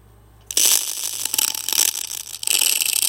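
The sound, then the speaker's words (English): A brush rasps through a dog's tangled, knotted hair after a brief quiet start, a bright, bristly scratching with a fine crackling texture, running in two long strokes with a short dip between. “That's me brushing the dog's hair.”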